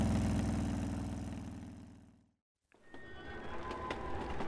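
A motorbike engine is gunned and roars loudly, its steady rumble fading fast as it speeds off in a swirl of dust. A brief silence follows, then a quieter background scene.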